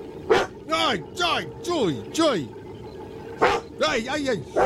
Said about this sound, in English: We do. Named Ron. Yes. But he never says anything. We've been working on trying to get him to bark, right?